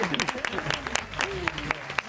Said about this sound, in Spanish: Enhorabuena. ¡Aplausos!